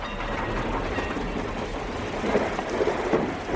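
Thunder rumbles continuously with a dense, rain-like roar, swelling into a few louder surges toward the end. It is fairly loud and steady, with no voices.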